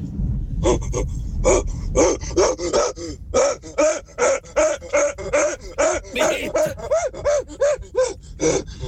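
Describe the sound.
A person at the steering wheel of a car imitates a gorilla with a long run of rapid, rhythmic huffing grunts and panting hoots, loud, over a steady low rumble of the car.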